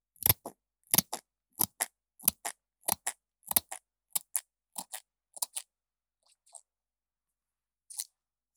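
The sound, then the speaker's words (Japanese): Crisp snips of scissors cutting hair, about a dozen in a steady rhythm, some in quick pairs, thinning out near the end with a few faint snips and one last cut. “下手な人は、この段階で髪の毛をハサミに引っ掛けちゃったりするけど、私はそんなことしないから。”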